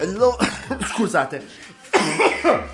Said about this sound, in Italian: Scusatemi, ma la tosse ogni tanto quando arriva, arriva.